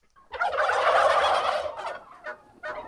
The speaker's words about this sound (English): In his barn, dark birds with broad plumes of tail feathers cluster around him. Those are the old standard bronze. That's the original Thanksgiving turkey.